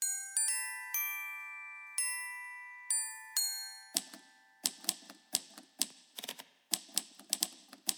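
An instrumental song intro made with the Vocaloid Kagamine Rin/Len software: bright, bell-like chimed notes ring out and sustain, then a crisp typewriter-style clacking beat takes over, tapping in a quick, steady rhythm with no voice.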